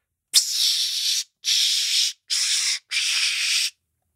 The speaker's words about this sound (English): And what was that? That was Dark Temptation. I don't know what Dark Temptation is. The Body Spray.